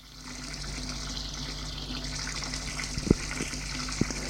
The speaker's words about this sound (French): Arrivé dans la salle de bain, il quitte son slip. Il jette à terre, entre dans la baignoire et se douche.